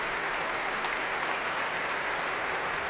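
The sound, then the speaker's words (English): A large audience at the Royal Albert Hall applauds enthusiastically for a group of young musicians, a dense, steady wash of clapping that holds at an even, loud level throughout with no voices on top. “No danger of that tonight here at the Royal Albert Hall. Rapturous reception for these well-travelled young musicians.”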